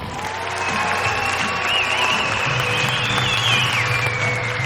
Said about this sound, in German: Und habe ohne Scheiß nichts aufgenommen. Bis auf den Applaus, glaube ich, nach dem Film.